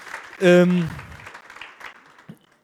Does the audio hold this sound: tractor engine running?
no